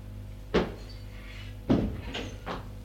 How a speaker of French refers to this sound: Prends la clé dans la poche et va la mettre dans la serrure. Mets la clé dans la serrure. La porte s'ouvre. Elle entre.